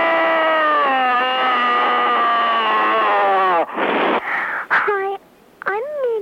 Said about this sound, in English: There's another screamer on the line. Just a minute. Screaming. Screaming.